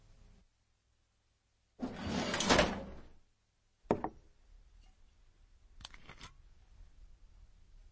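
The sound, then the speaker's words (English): A desk drawer holding Jim Beam whiskey slides open with a rough, scraping rumble lasting about a second, followed by a sharp knock and a later brief rattling clunk, with no voices. “either you part with an inch of the Jim Beam you got in your desk drawer, or we hang it up for tonight.”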